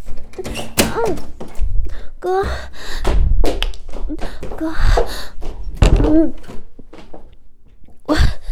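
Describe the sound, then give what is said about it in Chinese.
Heavy, irregular thuds of someone pounding on a door, several loud blows spread over a few seconds, while a voice calls out in Chinese in between, begging an older brother to open the door. “哥，开门啊，哥，是我，开门，开门啊！”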